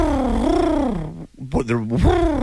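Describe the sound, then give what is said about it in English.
A person makes a pigeon-like cooing with their voice: low, throaty warbling notes that rise and fall, a short break, then a second burst of rolling coos. “Sounds like a pigeon.”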